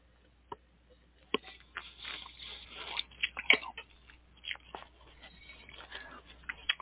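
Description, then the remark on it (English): Someone takes a second sip of wine to taste it: quiet wet slurps, lip smacks and a sniff or two, scattered over several seconds with no talking. “Do a second sip.”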